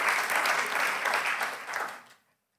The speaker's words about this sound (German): Übrigens eines, ja, gebt ihr nochmal einen Applaus.